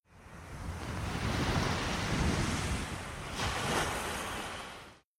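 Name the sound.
sea waves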